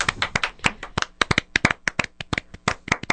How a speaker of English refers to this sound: The three-dimensional clap. Did you hear that? I heard that. It's pretty cool. We're experimenting with the sound design.